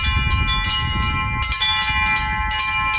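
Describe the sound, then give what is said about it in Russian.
Church bells rung by hand ring out loudly to announce a prayer service, fresh strikes landing every second or so over a sustained, shimmering hum of overlapping tones, with a low rumbling undertone beneath. “Каждый такой молебен – это праздник, и о нем возвещает колокольный звон.”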